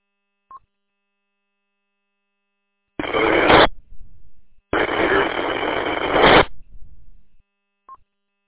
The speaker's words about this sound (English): I can't make out what you're transmitting. It's got a lot of static, and your volume's a little low.